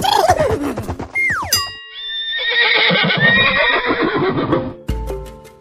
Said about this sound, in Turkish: Bildiniz değil mi? Bu canlının adı at.